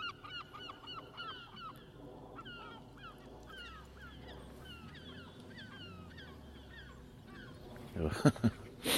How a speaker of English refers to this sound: I'm surrounded by seagulls. If I come off the Southwest Coast Path and just walk this about 20 metres to this track that I was on last night, it's like a track for I've disturbed all the seagulls. Listen.